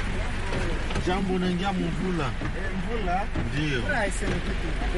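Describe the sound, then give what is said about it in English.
Steady, dense hiss of pouring rain fills the background throughout, with a man's voice talking animatedly over it as an FDLR rebel greets a driver. “Here is one of them greeting our driver in the pouring rain.”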